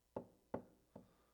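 Three firm knocks on a door, evenly spaced about half a second apart, the last one a little softer, with no voices around them.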